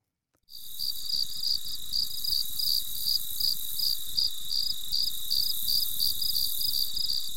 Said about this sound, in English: I wouldn't have thought that was a cicada, but let's listen to the crickets now and compare.